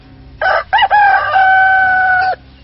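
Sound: rooster crowing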